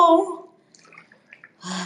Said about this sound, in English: Oh, shit. Oh, I clapped the water too hard. It's splashing outside. No!